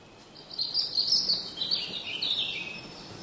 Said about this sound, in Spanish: Las hojas del roble ofrecen un territorio de caza ideal para un par de carboneros garrapinos que llevan jugosas orugas a sus crías.